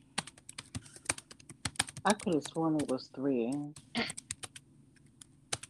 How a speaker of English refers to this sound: But then again, your keyboard, you sound like Hacker Man. My bad. No, you're good. It's just funny. Typing on.